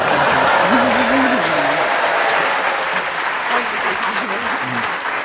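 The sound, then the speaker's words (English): A studio audience breaks into loud, sustained applause, a dense wash of clapping that carries steadily for several seconds, with a voice briefly audible beneath the noise. “I think that was a real sympathy applause”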